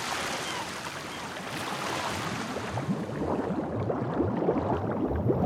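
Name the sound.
sea waves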